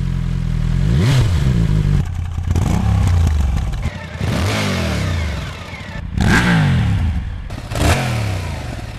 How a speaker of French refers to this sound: On va écouter 5 sons de moto qui ont toutes un point commun, alors saurez-vous les reconnaître?